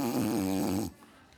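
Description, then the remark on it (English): A person imitates a snore with their voice: one loud, drawn-out rumbling buzz lasting under a second, then it cuts off abruptly into near silence. “Like, these guys are like sleeping over here. Now, I know you go, come on, this is a holy moment. You really think they were snoring?”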